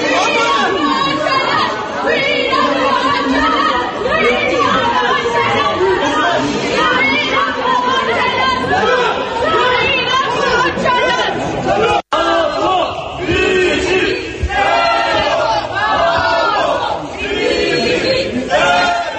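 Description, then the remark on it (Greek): Kurdish protesters storming the European Parliament loudly chant and shout slogans for the release of Abdullah Öcalan, calling his name, many voices overlapping in a dense, continuous roar for the whole stretch, broken only by a momentary cut partway through. “Πάμε να ακούσουμε ένα ηχητικό απόσπασμα τη στιγμή της εισβολής των Κούρδων στο Ευρωκοινοβούλιο με συνθήματα υπέρ της απελευθέρωσης του Αμπντουλάχ Οτσαλάν.”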